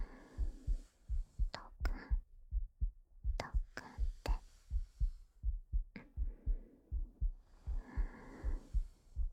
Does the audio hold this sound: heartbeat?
yes